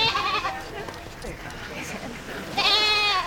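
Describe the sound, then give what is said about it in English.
Two loud, wavering bleats from goats at a beach yoga session, one at the start and another near the end, with softer outdoor background noise between them. “When Terry said beach yoga, I didn't think it would involve goats.”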